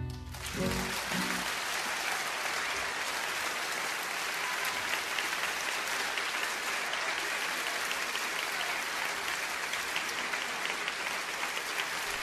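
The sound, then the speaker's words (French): Sustained audience applause, a dense steady wash of many hands clapping for about twelve seconds at an even, fairly loud level, with no voices standing out. “Je sais pas s'ils nous applaudissent en tant que roi des cons ou quoi.”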